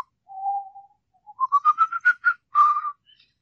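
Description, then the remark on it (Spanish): A person whistles a lively Mexican folk dance tune: one long low note, then a quick run of short, bouncy rising notes ending on a sustained tone, with no talking. “La chiflo, la canto. Tiene letra.”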